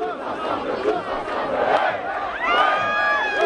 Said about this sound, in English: Across Paris, the crowds of no voters were jubilant.